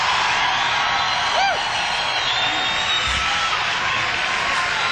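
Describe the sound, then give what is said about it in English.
At a live broadcast concert, an audience gives steady, dense applause for the evening's opening act, with a single high, rising-and-falling whoop cutting through early on and scattered cheering beneath. “Hey, let's have another round of applause for tonight's opening act,”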